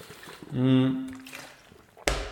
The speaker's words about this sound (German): Ich nehme kurz einen Schluck Wasser.